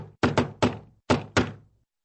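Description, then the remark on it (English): Five loud, heavy knocks on a door, struck in an uneven rhythm: a quick pair, a single blow, a brief pause, then another pair. They are resonant, with no voices. “One day, there was a loud knock on the door.”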